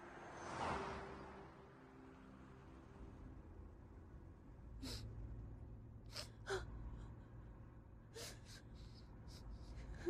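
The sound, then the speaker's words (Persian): A mother cries quietly, with a sharp gasping sob near the start followed by shaky breaths and intermittent sniffles over a low background, with no clear speech. “مامان اینقدر گریه نکن، من خوبم.”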